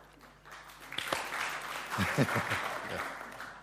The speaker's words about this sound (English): Yeah, good. Okay, that was our unmilitaristic clap.